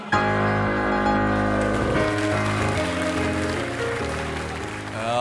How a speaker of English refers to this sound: one of my favorite things is when you stop there right as he comes on and the crowd erupts. You have to explain one more time why they're so fond of that moment.